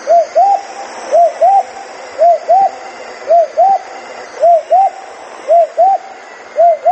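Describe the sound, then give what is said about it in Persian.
A fakhteh dove, a songbird heard in spring, coos steadily, repeating soft, rounded two-note phrases about once a second. The calls are clear over a faint, constant background hiss. “فخته پرنده خوش آواز دیگری است که آواز آن در فصل بهار شنیده می شود.”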